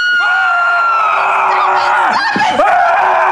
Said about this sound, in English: Let me go. I'm going to scream. Scream. I'm gonna scream.